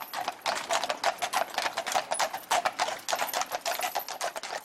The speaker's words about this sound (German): So hörte sich der Königsworther Platz wahrscheinlich um 1900 herum an. Von 1874 bis zur Jahrhundertwende fuhr hier die erste von Pferden gezogene Straßenbahn.